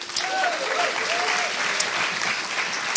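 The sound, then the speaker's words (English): Steady audience applause welcoming a family visiting from Spain, a dense wash of many hands clapping at an even loudness throughout, with a few faint voices or whoops rising briefly above it. “Definitely give them a round of applause.”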